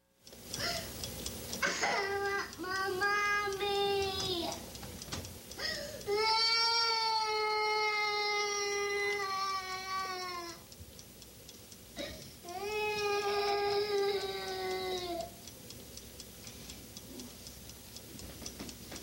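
A two-year-old toddler in timeout complains and cries in three long, loud, high-pitched wailing bouts separated by short gasping pauses, with a faint steady ticking underneath as the crying trails off.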